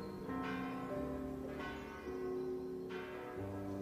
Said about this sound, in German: Der gedämpfte Klang einer Kirchenglocke.